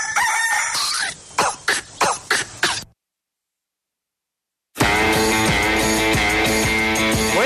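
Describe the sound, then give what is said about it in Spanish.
A burst of loud, rhythmic clucking or coughing sounds, a brief silence, then a loud, sustained rooster crow with a rich, harmonic tone, without any talking. “En las mañanas, manda el gallo.”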